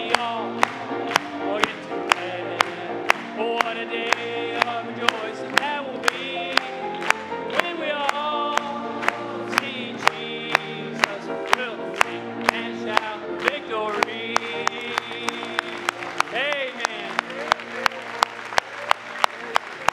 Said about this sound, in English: Let's clap it to Him. Amen.